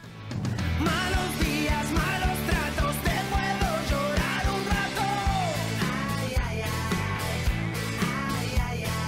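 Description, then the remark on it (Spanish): A loud, full band plays a driving beat while a person in the song's chorus gives a strained, shouted cry to the heavens, sustained cries riding on top of the dense music throughout. “Finalmente esta persona pega un grito a los cielos, decepcionado y cansado por estar viviendo tantos problemas.”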